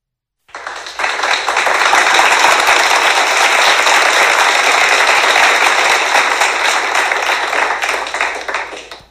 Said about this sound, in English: And yes, we thank you for that. Those were our reporters actually applauding themselves.